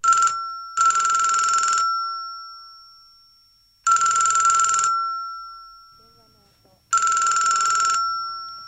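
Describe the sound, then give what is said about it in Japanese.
A telephone rings in loud, bright bursts: a short chirp, then three long rings spaced about three seconds apart, each with a tone that lingers and fades between them. No one speaks. “お母さん電話です。”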